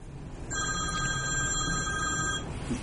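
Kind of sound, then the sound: signal or alarm, telephone ringing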